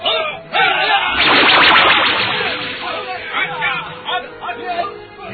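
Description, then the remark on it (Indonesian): Flaming arrows shot by soldiers whoosh very fast into the air in a quick, loud rush of swishing bursts, fading into a busy background of crowd voices and chatter. “Panah api melesat ke udara dengan sangat cepat.”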